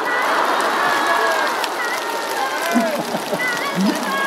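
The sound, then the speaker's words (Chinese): Sustained, steady applause from an audience thanking Master Lu (卢台长) after his brief teaching fills the whole stretch, a dense crackling wash with no pauses, while a few voices call out over it toward the end. “让我们以热烈的掌声感谢卢台长简短的开示。”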